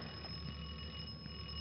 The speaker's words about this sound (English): Well, didn't you hear it? That's the doorbell. Someone's at the door. Someone to see me.